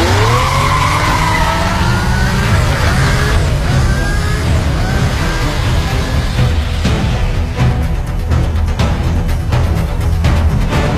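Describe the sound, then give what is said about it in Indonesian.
A car revs hard and pulls away as the driver floors it out of the road toward Kasibu, its tires squealing in rising, curving whines over a loud, continuous engine roar, intense for the whole stretch with no talking. “Aku tancap gas keluar dari jalan menuju Kasibu, lalu melanjutkan perjalanan.”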